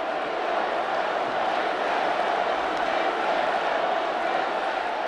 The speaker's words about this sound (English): And I see these guys in bright green hats circulating around the edges of the floor and getting the crowd to chant, USA, USA. And eventually, they drowned out the people who were shouting, no.